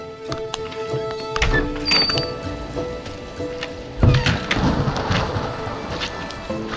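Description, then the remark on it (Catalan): A thunderstorm with steady rain hiss and two deep rumbles of thunder, the second louder, rolling in over scattered crackles. No one speaks. “Nanos, quina tempesta!”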